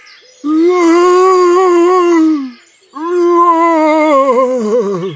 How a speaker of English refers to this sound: The monster sees Robin and Daisy. The monster roars.